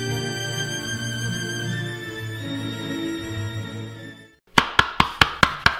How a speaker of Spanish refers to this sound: Alguien golpeaba la puerta de la botica.